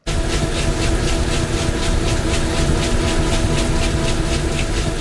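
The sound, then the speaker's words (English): A washing machine, recorded at the company Ascentec, runs loudly and steadily, its deep rumbling hum overlaid with a quick, regular whooshing pulse that repeats several times a second with no one talking. “Here's the full sound of a washing machine.”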